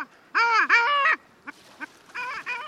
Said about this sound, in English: And finally, the nicknames for the long-tailed duck that mimic the bird's call.